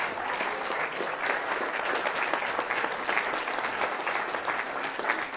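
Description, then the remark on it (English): An audience claps steadily, a dense, even wash of many hands that holds at a constant level for several seconds without building or fading, with no voices over it. “Funny, they started clapping like 2 seconds.”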